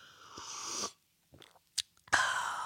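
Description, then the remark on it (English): Sipping Culligan water: a breathy slurp, a brief pause with a couple of small gulping clicks, then another airy sip. No one speaks. “This sip of water has been brought to you by Culligan.”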